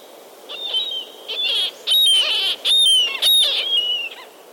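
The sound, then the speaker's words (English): A murrelet, a small endangered seabird that nests in old coastal forests on the west coast, calls out in a series of about six sharp, high-pitched keening cries, loud, coming in quick bursts with brief gaps between them and no talking. “is a small, endangered seabird that nests in old coastal forests on the west coast.”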